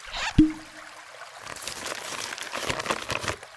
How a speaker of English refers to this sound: Water, water, water, much more water.